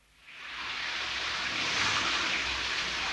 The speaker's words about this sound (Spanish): Ahora llueve. Qué bonito ver las gotitas caer.